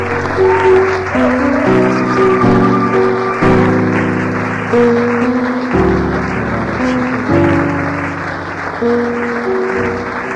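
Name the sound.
audience applauding and acclaiming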